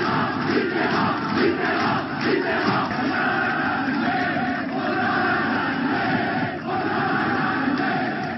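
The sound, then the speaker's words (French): A large crowd of left-wing supporters in France roars and cheers jubilantly at the election of François Mitterrand as president on 10 May 1981, a dense, continuous wall of shouting voices with occasional louder whoops and swells, sustained at high volume throughout. “Le peuple de gauche en liesse en ce 10 mai 1981, plein d'espoir, rose rouge à la main.”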